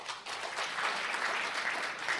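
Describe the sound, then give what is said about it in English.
A comedy show audience in Tempe breaks into steady applause when asked to applaud if they don't smoke weed at all, many hands clapping in a dense, even patter that holds at a moderate level for a couple of seconds with no voices over it. “I mean, I know that, like, my comedy show gets a more weed crowd than, like, applaud if you don't smoke weed at all.”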